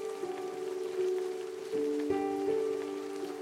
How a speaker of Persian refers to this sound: امروز صدایی در شهر پیچید که مدت ها بود دلمان برایش تنگ شده بود، صدای نم نم باران.